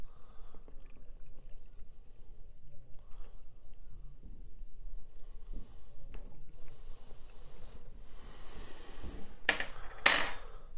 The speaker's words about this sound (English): Right, now let's clear the decks so we can add the Coca-Cola. Bring the drink in. Bar spoon. It's a rather large bottle, but here we go. Layer it over slowly.